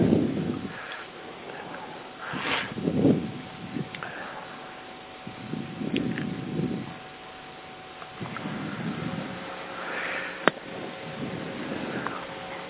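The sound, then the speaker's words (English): Heavy breathing in the background of a meeting rises and falls in a slow, steady rhythm, about five airy breaths over a faint background hum, with one sharp click near the end and no talking. “I only hear heavy breathing in the background.”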